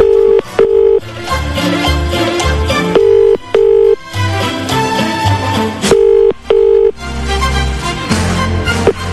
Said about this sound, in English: So let's make another phone call here. Hold on. Here we go.